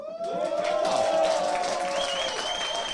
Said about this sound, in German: Das klingt gut. Und ich sehe auch, dass da hinten kräftig applaudiert wird.